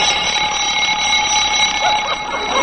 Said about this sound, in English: I must have hit the button on my alarm clock.